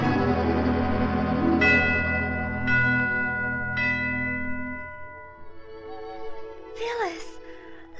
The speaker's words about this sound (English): Hey, Alice, what are those bells?